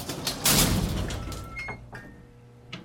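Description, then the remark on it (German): The door of a cramped cabin is pulled shut with a loud thump, followed by faint rattling, brief metallic squeaks and a final soft click, with no one speaking. “führte sie in eine beengte Kabine und schloss die Tür hinter ihnen.”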